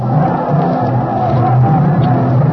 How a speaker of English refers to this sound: Look at them, …! Right down on their blooming knees and yelling their fool heads off.